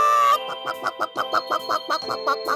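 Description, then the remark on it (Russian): A chicken clucks in a quick, steady series of about ten short, throaty clucks, clear and fairly loud over a faint sustained background hum. “Настоящая курица на настоящем радио.”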